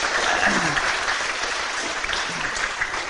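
Steady applause from an audience, a dense wash of many hands clapping at an even level throughout, with a few faint voices murmuring underneath.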